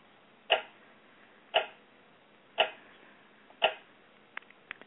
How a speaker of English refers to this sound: Were you doing the clock, the tick, tick, tick? That was intentional, right? I was playing it before, but for a long time, and I didn't like it. So I played it for like a second.